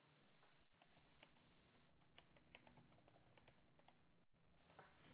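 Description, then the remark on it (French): Heavy, steady rain patters down in a constant, fairly quiet hiss, with scattered sharp drops ticking and tapping through it. No voices are heard. “Et il pleut comme pas possible.”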